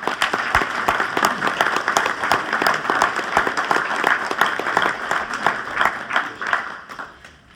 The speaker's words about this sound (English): So how about a nice round of applause for her?